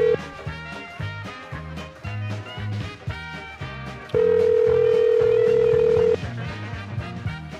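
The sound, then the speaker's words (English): A steady two-second ringback tone from an outgoing phone call, made to call someone back, sounds loud over busy background music, then fades back to just the music with no answer. “Are you allowed to just not answer the phone?”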